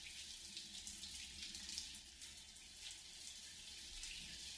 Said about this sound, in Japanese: 頭全体が暖かくて心地よい。お湯で泡を流していくよ。